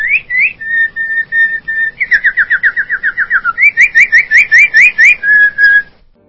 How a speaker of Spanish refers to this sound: Todavía no había pasado al sueño cuando oí en mí el canto de un pajarito.